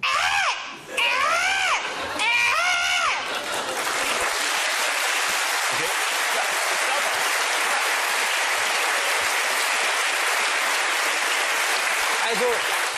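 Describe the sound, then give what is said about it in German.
A person lets out several shrill, rising-and-falling screeches imitating a bird's cry, then a crowd breaks into loud, sustained applause and cheering. “Und ich mache Ihnen auch jetzt sofort den Schrei.”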